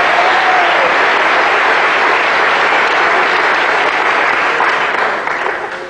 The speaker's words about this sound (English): Quickly, how many non-smokers are here tonight? Non-smokers. By round of applause, let's hear non-smokers.